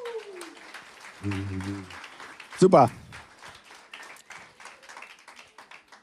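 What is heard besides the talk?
audience applause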